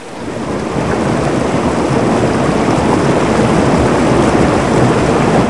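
Powerful ocean waves roar against coastal rocks in a dense, continuous wash of noise, loud, swelling in over the first half second and then holding steady, with no voices.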